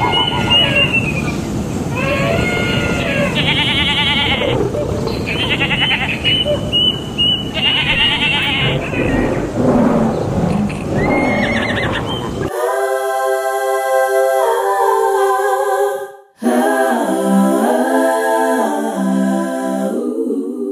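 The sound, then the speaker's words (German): A loud, dense chorus of farm animals on a meadow grunting, neighing and roaring over one another, giving way to long, drawn-out braying calls that rise and fall in pitch, with a brief pause between them. “Da fangen die Tiere nacheinander an zu grunzen, zu wiehern, zu brüllen, zu pfeifen und zu zischen.”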